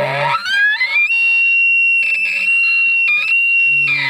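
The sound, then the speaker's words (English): A single high-pitched, non-threatening elk bugle blown on a call to aggravate a bull elk: a low grunt, then a shrill whistle sliding upward and holding steady for several seconds, loud and alone, ending in another brief low grunt. “You might try a high-pitched, non-threatening bugle, which can be very aggravating to the bull that you're looking for.”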